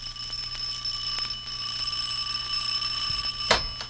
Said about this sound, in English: Good evening. Don't you ever answer the doorbell? Yes, when it rings. Sometimes it doesn't. It's erratic.